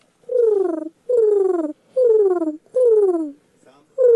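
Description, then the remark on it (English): A woman imitates a pigeon's coo, voicing four drawn-out, falling hoots in a steady rhythm, fairly loud, with a fifth just beginning at the end. “She notes her ability to make impressive bird calls as one of her strong suits.”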